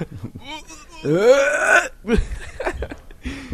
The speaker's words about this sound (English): Sorry, I was burping, trying to get that out.